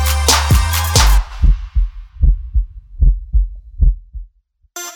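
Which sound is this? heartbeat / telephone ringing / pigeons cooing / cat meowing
heartbeat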